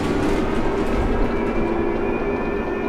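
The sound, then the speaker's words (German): A diesel bus rattles along with a loud, steady engine rumble, a deep drone under a constant rattling hum, with faint higher tones running through it and no one speaking. “Für Komfort steht der Diesel nicht, dafür für Zuverlässigkeit.”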